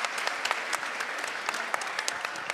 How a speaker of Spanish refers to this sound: ¡Denle un fuerte aplauso, por favor!